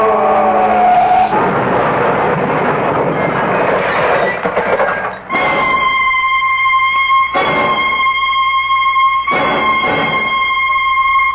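A car's loud roaring rush gives way to a sustained, piercing screech of skidding tires, pulsing in harsh bursts, intense, as the car plunges off Coldwater Canyon; no voices.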